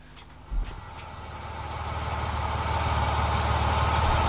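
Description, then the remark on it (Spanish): A car engine rumbles in, growing steadily louder as it approaches, then settles into a low, continuous idle. No voices are heard. “¡Un auto!”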